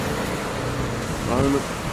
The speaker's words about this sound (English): A lot of cars here, a lot of noise here. Can't you let a man sleep quietly?